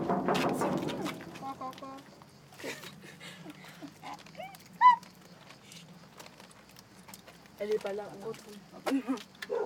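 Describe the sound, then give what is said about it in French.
A dog gives a few short barks and yelps, mixed in with people talking and some shuffling movement in the background. “Non, il est gentil, il est gentil le chien.”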